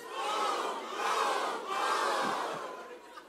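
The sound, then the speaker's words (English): A church crowd shouts "boom" three times in unison, cheering a plan for house nights, each loud, sustained cry following closely on the last in a steady rhythm before fading into scattered murmurs. “And our prayer is that this room of people, yeah, 3 booms for that.”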